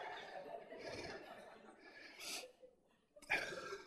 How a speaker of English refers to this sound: Why am I breathing hard? Must be the altitude.